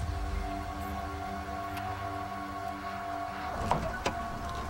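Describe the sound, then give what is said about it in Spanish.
Police open a car trunk with a steady mechanical whirring hum, then two sharp clunks as the latch releases near the end. The sound is moderately quiet, with no voices. “Abren el maletero.”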